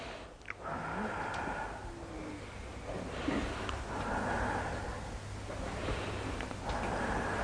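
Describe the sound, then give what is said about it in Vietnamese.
Slow, deliberate breaths repeat in three even cycles, each a soft airy rush of inhaling through the nose and exhaling through the mouth by a person sitting upright on a chair with a straight back, steady over a low background hum, with no talking. “Hít thở, mũi thở miệng 3 lần.”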